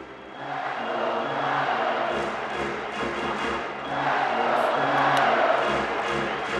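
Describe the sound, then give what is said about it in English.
A sellout hockey arena crowd at a Coyotes game against the Detroit Red Wings roars and chants "Let's go Coyotes" together in steady, swelling waves, loud and dense throughout, with brief sharp whistles rising above the din. “The sellout crowd chanted, "Let's go Coyotes."”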